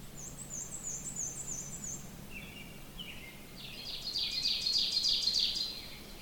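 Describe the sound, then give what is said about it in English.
Two ovenbirds sing their repeated, emphatic chanting songs from different directions. One is fainter, then a second song swells steadily louder, with a low hum underneath. “I've walked a little further, and it's kind of neat because I'm hearing more than one of these oven birds in different directions.”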